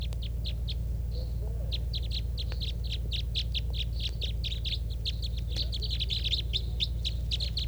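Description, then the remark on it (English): A flock of birds, sounding like young juvenile type 3s, calls steadily from the trees by a net at a fishing spot, a dense stream of short, high chirps overlapping one another, with a low steady hum underneath and no talking. “And they're still here, calling from the trees.”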